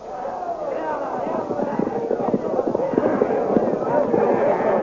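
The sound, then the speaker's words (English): A dense roar of many shouting voices mixed with rapid, rumbling hoofbeats, loud, building steadily as the Blue Magic Army's riders charge forward together to attack the barricaded Hawkmen. “With shouts and confusion, the Blue Magic Army charges to attack the barricaded Hawkmen.”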